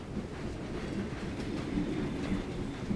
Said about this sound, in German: Und damit fährt der Zug auf die Brücke.